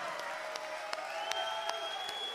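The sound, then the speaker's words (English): A crowd claps steadily for a couple of seconds, a dense wash of applause with a few sharper individual claps, a thin whistle-like tone, and faint cheering mixed in. “Okay, how about a big round of applause for the Sagittarius man? Big round of applause.”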